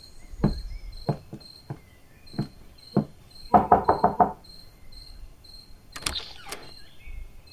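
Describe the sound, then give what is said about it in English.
Knocking on a front door: a few scattered single raps, then a quick burst of about five loud knocks, with crickets chirping steadily in the background and a brief creak near the end. “I think we should go knock on the door at least.”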